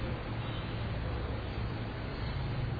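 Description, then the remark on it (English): A steady, continuous rumble of road traffic with a low hum underneath, fairly quiet, with no distinct passing vehicles and no voices. “Maybe you find the noise of the traffic annoying.”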